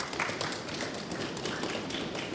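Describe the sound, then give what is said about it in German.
A live audience stamps its feet in a dense, continuous rumble of overlapping thuds and taps, steady and fairly loud throughout, with no voices standing out. “zu Hause hören, dass ich hier nicht alleine sitze, würde ich unser Publikum mal kurz bitten, wirklich durch so ein ganz klassisches Trampeln vielleicht mal zu zeigen, dass ihr wirklich viel zu viele seid, als dass wir im Archiv heute sitzen könnten.”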